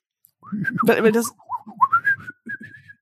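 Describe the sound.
A person whistles a quick, chirpy run of warbling notes imitating bird language, with a burst of laughter or breathy voice in the middle, fairly loud.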